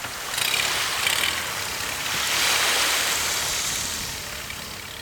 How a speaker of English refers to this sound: Año Nuevo Island is one of their few nesting places in the United States, so we're all zipped tightly into wetsuits and crashing through waves in this tiny boat.